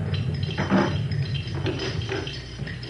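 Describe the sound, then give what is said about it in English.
A ship's anchor chain runs out as the anchor goes down at night: a steady, crunchy metallic rattling and grinding, with bumpy clanks rising and falling over a low rumble. “That crunchy, bumpy noise you may have heard was our anchor on the way down.”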